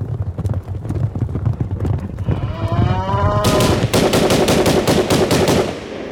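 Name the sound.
gunfire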